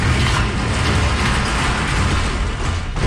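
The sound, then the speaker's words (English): A garage door operating: a loud, steady mechanical rumble with dense rattling and grinding that holds for about three seconds, with no voices. “Dust Bowl Jack thought it might be a brick wall getting demolished, and it did have that big sound, but we were looking for a garage door.”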